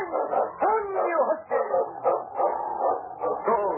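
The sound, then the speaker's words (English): A pack of sled dogs led by King, lead dog for Sergeant Preston of the Northwest Mounted Police in the Yukon, barks and yips excitedly, their overlapping cries continuous, rising and falling in pitch without pause for nearly four seconds. “It's King, swiftest and strongest lead dog of the North Country, blazing the trail for Sergeant Preston of the Northwest Mounted Police in his relentless pursuit of lawbreakers.”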